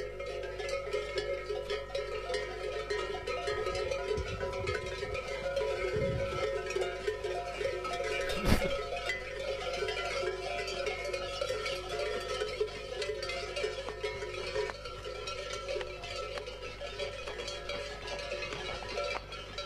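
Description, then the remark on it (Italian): Cows walk along with bells clanking steadily, a dense overlapping jangle of many bells, with one sharper clank standing out midway and no one speaking. “Questo è il rumore loro che camminano, no? Cioè le mucche.”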